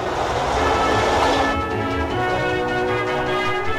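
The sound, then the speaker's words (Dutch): A vintage Rotterdam metro train on its opening ride over the 6-kilometre line from Centraal Station to Zuidplein rumbles along the track, a broad roaring wash easing into steady running noise with tonal whine and low rhythmic thumps, loud throughout. “Samen met het gemeentebestuur en een groot aantal genodigden maakten de vorstelijke gasten de openingsrit over het 6 kilometer lange traject.”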